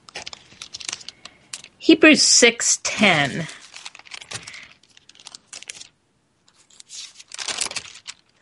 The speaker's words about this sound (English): And then Hebrews. I'm sorry for my pages turning, the sound of it.